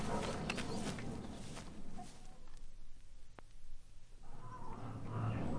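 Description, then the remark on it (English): A hen about to be killed clucks and squawks in short, uneven bursts amid scuffling and rustling, with a brief quieter pause in the middle before the agitated noises pick up again. “Put your hands round its neck and do what I did.”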